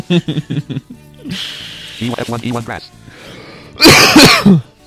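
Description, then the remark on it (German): Voices talk and murmur, then one loud, explosive cough or sneeze bursts out near the end and quickly dies away. “Gesundheit. Danke.”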